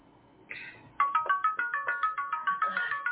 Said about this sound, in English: Is that your phone? Yep, that's your phone.